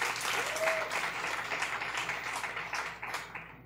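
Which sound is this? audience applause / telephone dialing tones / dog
audience applause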